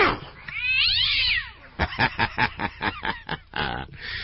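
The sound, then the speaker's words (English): A cat lets out one long, wavering yowl, then a quick burst of about eight short, clipped meows in a row, loud, with no one talking. “I played it for them, my cat went absolutely crazy, ballistic, running around the house.”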